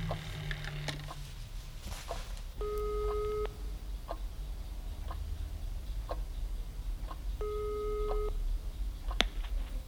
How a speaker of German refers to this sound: Von dort aus rief Mr. Peck den Leiter der Seniorenresidenz auf seinem Handy an.